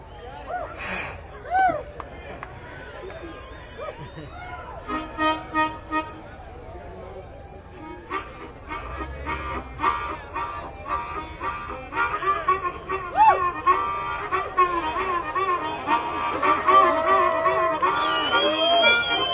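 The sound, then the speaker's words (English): A harmonica plays a lively, chugging tune called Lost John with wailing bent notes and quick rhythmic bursts that grow fuller and louder toward the end, with the steady low beat of a stomping foot underneath. “get some old boy to sit down by a microphone with just a stomping foot and the harmonica”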